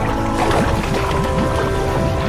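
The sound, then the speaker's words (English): A steady, loud wash of bubbling, gurgling water with rapid little popping chirps as bath bubbles overflow a bathtub and spatter onto the floor without any break, and no voices. “The bubbles spill over the tub and onto the floor.”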